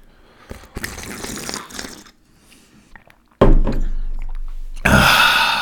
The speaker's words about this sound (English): And then, some more milk. And you do the loud, obnoxious sip.